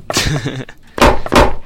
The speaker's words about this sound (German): Hörst du damit auf? Es klopft.